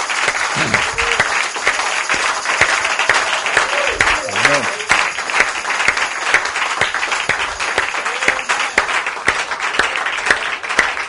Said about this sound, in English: Saints, as we start, first thing I want to say is that round of applause we gave to the children sure didn't do justice to what was done today. I think let's really give them a proper round of applause.